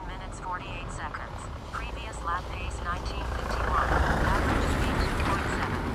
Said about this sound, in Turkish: Çok dar bir köy yolu olduğu için çok dar. İyice kenara çekildim yeter arkadaşlar. Tam yanımdan geçti araba.